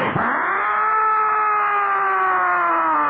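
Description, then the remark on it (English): A loud fire truck siren winds up fast, then holds a steady, piercing wail for a few seconds, continuous, with no talking over it, as the fire truck sets off to an emergency. “They run and jump on board the truck. And it's fired up. And the siren turns on.”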